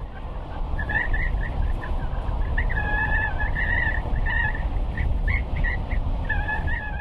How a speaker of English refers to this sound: And I couldn't resist but get my microphone and my tape recorder and start recording the sound of this gas station, which I felt sort of symbolized the isolation, the sort of Dust Bowl mentality.